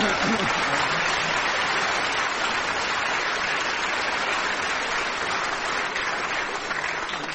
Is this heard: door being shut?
no